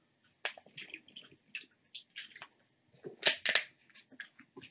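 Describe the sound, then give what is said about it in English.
Someone drinks water from a plastic bottle: the bottle crinkles and crackles in irregular bursts between soft swallows and sips, with no talking. “Therefore, water time.”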